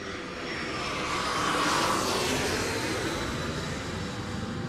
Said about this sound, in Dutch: En op een gegeven moment, dat was dan, zeg maar, laat in de middag hoor ik een vliegtuig overkomen.